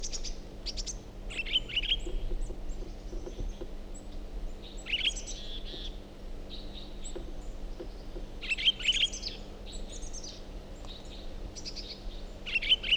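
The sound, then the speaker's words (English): Bird song in repeated bursts of high, bright chirps and trills, rising in clusters every few seconds over a low steady hum, with no voices present. “Is that recording same bird?”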